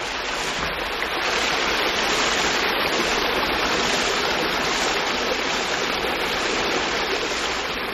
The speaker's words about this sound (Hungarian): kisétálunk a malomárok végéhez, ahol jól hallatszik a víz csobogása.